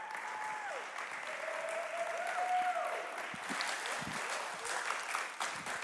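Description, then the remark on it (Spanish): An audience applauds two young men who work on a university and college ministry, a dense wash of clapping that holds at an even loudness for several seconds, with a few scattered cheers or whistles rising above it. “para quienes les pido que le den un fuerte aplauso.”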